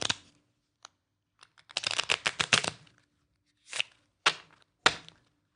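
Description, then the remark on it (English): A complete deck of 52 playing cards being shuffled: a quick riffling burst of crisp flutters, followed by a few separate sharp snaps as the deck is squared, with no talking. “You have a complete shuffled deck of 52 cards.”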